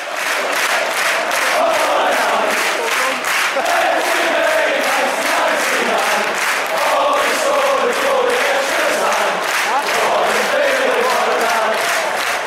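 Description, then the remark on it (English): A big football crowd chants together in a steady rhythmic beat, a loud, dense roar of many voices with regular pulses running the whole way through, rising and falling in unison. “First of all, I've got a chant”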